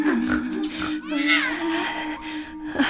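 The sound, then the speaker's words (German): A baby boy grunts and snuffles like a small pig, a continuous run of whiny, nasal vocal sounds lasting a few seconds with no talking. “Aber jetzt grunzt doch nicht so. Das schickt sich nicht für kleine Jungen.”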